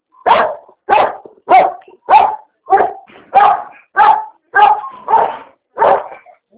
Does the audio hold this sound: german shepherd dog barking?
yes